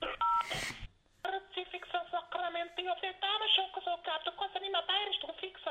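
A telephone number is dialed for a call to Vienna: a short run of steady keypad beeps over a noisy burst, followed by several seconds of thin, tinny, phone-line sound with shifting tones.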